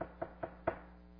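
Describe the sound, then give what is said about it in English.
Four sharp knocks on a home's door in the middle of the night by Roman soldiers, three evenly spaced and a slightly delayed, heavier fourth, with a hollow wooden thud and no voices. “And sometime in the middle of the night, someone in their neighborhood would hear this.”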